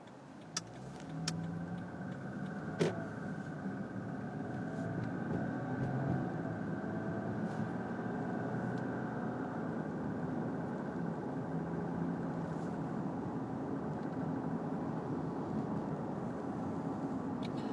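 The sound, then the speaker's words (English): A steady low rumble of car engines fills the scene, with the continuous drone of passing traffic and a few brief clicks near the start, no voices present. “All these cars. Go car.”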